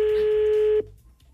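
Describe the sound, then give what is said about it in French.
A single steady telephone tone sounds loud for just under a second as the RTL radio show places a call to a listener, then cuts off abruptly into quiet line noise. No one speaks. “Ah, on va essayer de l'appeler.”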